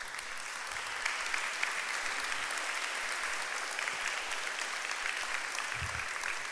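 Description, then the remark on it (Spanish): An audience applauds the Lord steadily, a dense, even wash of many hands clapping that holds at a constant moderately loud level throughout, with no voices standing out. “No le dan un aplauso al Señor por esto.”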